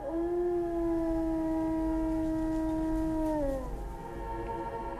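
A single long, sustained wolf howl holds a steady pitch for several seconds, then slides downward as it fades, with a faint rumble of background noise and no talking.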